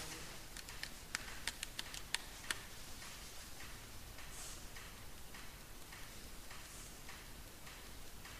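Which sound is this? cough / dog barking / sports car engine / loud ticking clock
loud ticking clock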